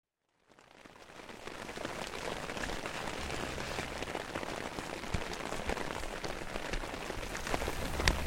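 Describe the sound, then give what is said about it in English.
Steady light drizzle in Lithuania patters on a surface, a soft continuous hiss of fine drops that swells in after a brief silence and holds even throughout, with no voices. “And it's been getting hillier and drizzlier and softer around the edges.”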